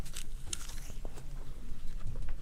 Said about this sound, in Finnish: koska tosi outoa, jos te mussutatte keksejä ja omenoita tähän mikrofoniin. Kuuluu vaan mussu.